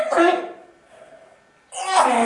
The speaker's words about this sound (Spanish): Ay, qué tos.